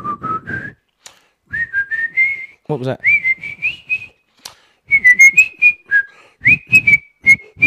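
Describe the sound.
A person whistles a bright, bouncy advert jingle in short melodic phrases, clear, with a brief spoken question in the middle and low chatter underneath at times.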